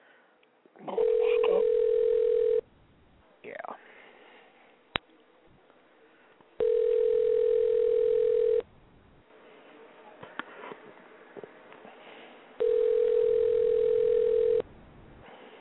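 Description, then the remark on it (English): A telephone line tone sounds three times as a radio host places a call to a listener, each a steady, loud mid-pitched beep lasting about two seconds, separated by several-second pauses. A voice briefly speaks and some faint clicks come between the tones. “So if I have your number, chances are I'll be calling you soon, because nobody else wants to pick up their phone.”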